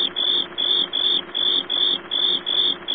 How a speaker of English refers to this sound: But I do have this. Okay. Ooh, cricket. Oh, very nice.